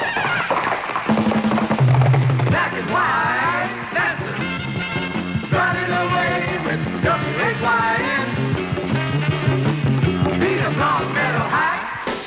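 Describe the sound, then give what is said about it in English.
A high school crowd cheers for Longmeadow High ahead of its football game against Commerce, cheering loudly and without pause, many voices yelling and whooping together in a dense, sustained roar that stays strong for about twelve seconds. “Let's get on a cheer for Longmeadow High.”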